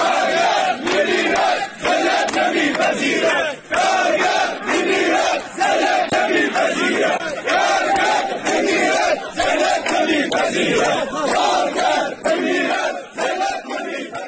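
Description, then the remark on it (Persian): A crowd of striking workers of the Mian Ab sugarcane agro-industry company in Shush County chants slogans protesting their labor contracts, low wages and company management, loud and continuous, with rhythmic bursts of shouted voices rising and falling in steady cadence for the whole stretch. “کارگران اعتصابی همچنین با سر دادن شعارهایی به وضعیت قراردادهای کار، دستمزد پایین و عملکرد مدیریت شرکت اعتراض کردند”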